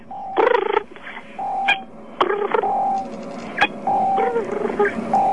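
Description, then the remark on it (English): A voice imitates cell phone interference buzz: stuttering electronic bursts and clicks with short steady hums between them, loud and close, repeating irregularly for several seconds with no talking. “Do the cell phone interference sound again.”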